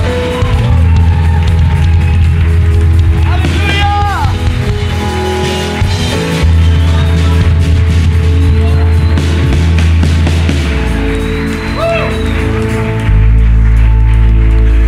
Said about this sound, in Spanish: Aleluya. Damos este aplauso para ti, Jesús.